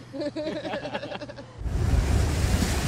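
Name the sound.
ocean surf waves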